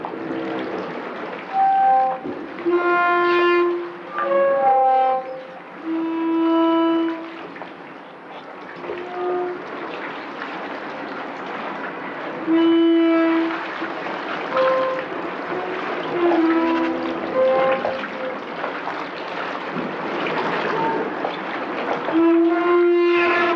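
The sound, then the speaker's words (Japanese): A pier jutting into Shiogama Port creaks and groans as waves rub against it, long resonant tones like a bowed string recurring irregularly over a steady wash of moving water, fairly loud, recorded on a portable recorder. “港に突き出た桟橋が波で擦れる音ですが、私には大きな弦楽器を練習している音に聞こえます。”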